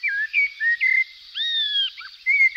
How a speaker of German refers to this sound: Es ist allerdings nicht einfach, zum Beispiel den Gesang einer Amsel in Noten aufzuschreiben.